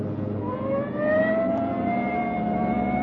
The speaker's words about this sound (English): Hit the siren. I'll get the light.